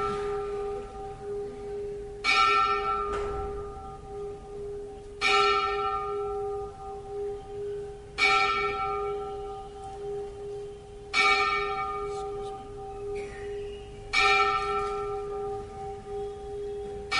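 A church bell tolls slowly and steadily, five or six resonant strikes about three seconds apart, each ringing out and sustaining into the next, fairly loud with no talking.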